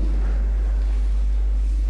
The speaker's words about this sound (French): C'est un camion, un gros camion qui passe.